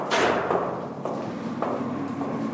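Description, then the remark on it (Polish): Sounds of people at work in a forest somewhere in the taiga: a loud opening thud followed by a steady series of sharp knocks about every half second, like chopping or hammering, over a low continuous rumble. “Tutaj tak, słyszymy odgłosy też pracujących osób. Gdzieś w Sajdze, gdzieś w lesie.”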